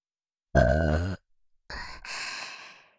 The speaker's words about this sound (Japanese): 感謝の気持ちをゲップにして、たくさん伝えちゃいます。